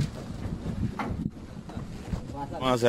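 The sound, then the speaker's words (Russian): A small boat of volunteers motors steadily through flooded neighbourhoods in Paraguay, searching for animals, its low engine rumble mixed with wind buffeting the microphone, and a voice briefly rises near the end. “Добровольцы организовали команду и объезжают на лодке затопленные кварталы в поисках четвероногих.”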